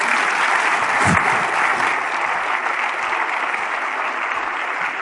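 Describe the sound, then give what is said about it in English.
Sustained audience applause for a panel of speakers at an evening event, a dense, steady wash of many hands clapping at a loud, even level throughout, with no voices standing out. “So could I get a big round of applause for our panelists, please?”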